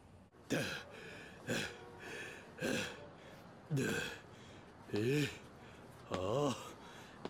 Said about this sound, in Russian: Чего ты дышишь так, будто бежал?